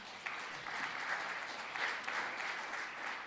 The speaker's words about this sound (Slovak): Môžeme dať potlesk pánovi, halelúja.